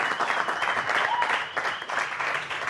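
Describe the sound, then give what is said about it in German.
Steady crowd applause at Apfelwein-Wagner for a prize draw winner, a dense wash of many hands clapping at an even, fairly loud level for a few seconds, with a faint murmur of voices mixed in. “Tosenden Applaus bitte hier bei Apfelwein-Wagner, meine Damen und Herren.”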